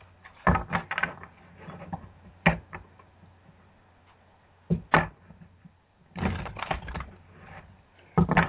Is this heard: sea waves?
no